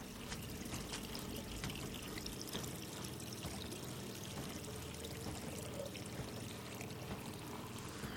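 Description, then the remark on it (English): Water is sprinkled by hand onto dyed wool spread over a felt design during felt-making, a steady, soft hiss of falling droplets with faint pattering, continuing evenly for the whole stretch with no voices. “After the design is finished, water is sprinkled on the colored wools by hand, and then the dyed wools are spread over the entire surface of the design, and then water is sprinkled.”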